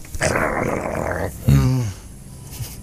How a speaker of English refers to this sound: I don't want to hear that dog make that noise again.